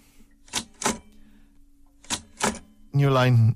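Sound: typewriter keys clacking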